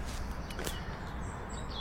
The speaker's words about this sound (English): They seem to be around at all hours of the day. Just coming a little closer to a dual carriageway. And you can hear the level of traffic noise, even though it's early in the morning, starting to build. Are the blackbirds? Blackbirds everywhere now.